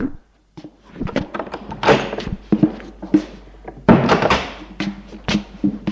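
A series of solid wooden thunks and knocks as a doctor opens and shuts the door for a visitor who rang, with a couple of sharper bangs and some rattling handling noise between them.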